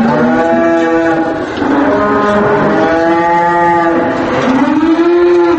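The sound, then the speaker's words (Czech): Several dairy cows, left unmilked and unfed during a workers' strike at an agricultural-industrial combine in Zemun, moo loudly and continuously, their long, drawn-out lows overlapping one after another with no pause. No one speaks. “Evo čuju se da muči, pretpostavljam da im nije dobro.”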